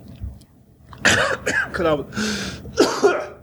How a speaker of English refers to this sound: I'm not eating. No, just cough. Just coughing.